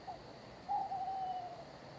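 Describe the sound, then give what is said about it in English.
A single drawn-out owl screech, thin and steady, rises out of a quiet night hiss in the streets of Lanark, where owls hunt for food, lasts under a second, then fades back into stillness, with no other voices around. “Beyond the castle walls, even Lanark's town drunks are quiet, their songs giving way to the screeches of owls hunting the streets for their supper.”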